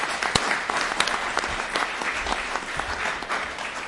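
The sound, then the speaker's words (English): An audience gives a round of applause to welcome Sir Richard Mottram, a dense patter of many hands clapping with a few sharper individual claps standing out, at a fairly even moderate loudness throughout. “So no further ado, I wonder we'll warm the room up with a round of applause and welcome Sir Richard Mottram.”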